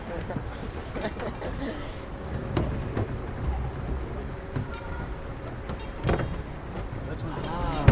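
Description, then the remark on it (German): Several sharp metallic knocks spaced irregularly over a steady rumbling background, struck against a metal rod lowered into water to send acoustic signals through the water, picked up with a hydrophone, with faint muffled voices underneath. “da klopft er auf irgendwas. Ja, da wurde eine Metallstange ins Wasser gelassen und über die werden akustische Signale ins Wasser gesendet.”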